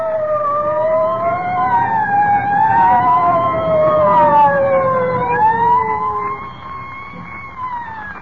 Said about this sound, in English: I don't like the sound of them sirens.